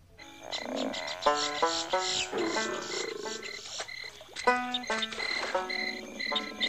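Frogs croak throughout a dense bayou ambiance from Pirates of the Caribbean, their throaty calls overlapping in irregular bursts, while a steady high chirping of crickets hums beneath. Moderately loud, with no voices.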